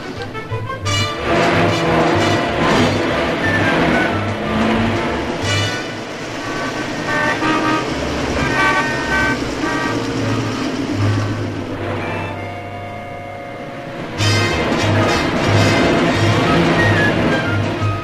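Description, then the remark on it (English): Busy road traffic with car horns honking repeatedly and overlapping, a loud, continuous din of blaring toots and engine rumble that briefly eases before swelling again. “How long will this traffic keep up?”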